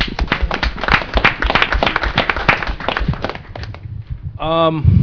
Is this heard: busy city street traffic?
no